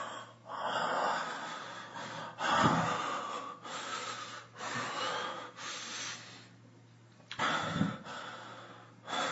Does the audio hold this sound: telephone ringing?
no